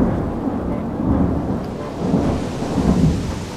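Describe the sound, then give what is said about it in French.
A thunderstorm rages: steady, heavy rain hisses throughout while deep rolls of thunder swell and rumble beneath it, loud, with no voices. “Durant les premiers jours, la petite embarcation affronte orages et tempêtes.”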